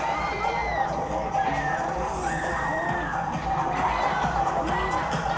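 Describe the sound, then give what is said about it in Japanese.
An audience on a panicked club dance floor in Tokyo screams and shrieks continuously, many overlapping high wailing voices rising and falling over a dense, steady roar of noise. “パニック状態に陥ったダンスフロア、オーディエンスの叫び声が終わらぬ夜を引き裂く。”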